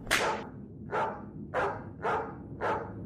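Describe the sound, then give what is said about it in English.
Sled dogs pulling a three-seater dog sled barking: five sharp, evenly spaced barks, about two per second, each a bright burst that fades quickly, over a steady low rumble with no talking. “Good thing this dog sled's a three-seater.”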